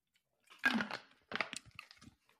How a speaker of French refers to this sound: Et je prends une petite gorgée.